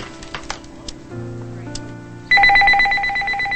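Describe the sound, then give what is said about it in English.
A few faint clicks and steady dial tones as a phone number is dialed again, then a loud phone ring starts and trills continuously in a rapid warbling pattern until the end, with no voices. “Nathan dials again.”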